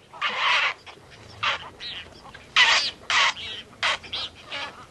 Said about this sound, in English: a desert island that has been taken over by a community of big-winged birds, roseate spoonbills, great blue herons, reddish and snowy egrets.